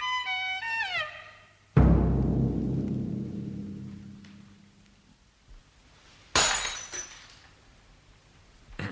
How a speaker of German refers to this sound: Sie haben das Glas fallen lassen, Herr Doktor.